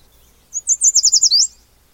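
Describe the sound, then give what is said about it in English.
A songbird sings a quick, bright series of about eight high, sweet-sounding notes in a steady rhythm, sounding like 'sweet, sweet, sweet', clear, with quiet background before and after. “The song of that bird, if you listen out for it, it sounds like the bird is saying, sweet, sweet, sweet, a little more sweet.”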